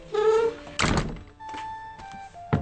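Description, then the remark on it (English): The squeaky old wooden door of the John Howland House in Plymouth, the only house still standing there where a Mayflower pilgrim lived, creaks with a pitched groan as it is closed, then shuts with a heavy, resonant thud, followed by faint rattling and a second soft knock as it settles. “Curator Susan Shaw welcomes our crew and bids us close the door.”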